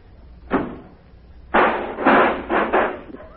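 A taxi door is slammed shut with a sharp thud, then a second, louder crash sets off about a second and a half of rattling, clanking clatter. No one speaks.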